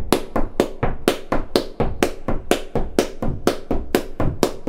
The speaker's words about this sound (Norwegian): Og det lyder sådan her, når man tramper og klapper. Ja, her har vi rytme nummer 1. 1, 2, 3, 4.